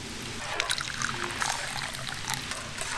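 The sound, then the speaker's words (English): Tea pours steadily into a cup for a few seconds, about half a cup, a continuous trickling splash with small bubbling glugs and no voices. “Maybe just half a cup here.”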